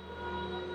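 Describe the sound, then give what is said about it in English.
A steady, droning wash of electronically manipulated voices of singers reciting stories, part of an outdoor sound and video art installation; layered sustained tones hold at an even volume and reverberate against the stones of an arched overpass under an old viaduct rail bed north of Chinatown, with no speech on top. “This droning sound you're hearing reverberates against the stones of an arched overpass under the old viaduct rail bed.”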